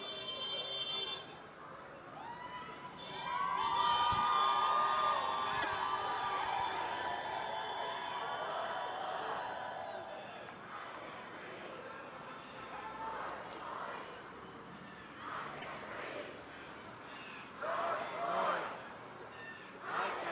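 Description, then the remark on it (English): Several car horns honk in overlapping, drawn-out blasts amid a busy outdoor crowd murmur at a street protest, with shorter beeps continuing fainter toward the end. “More and more car beeping, showing their support for the protesters.”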